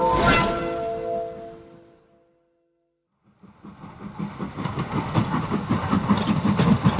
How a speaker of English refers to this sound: Stop! Stop the train!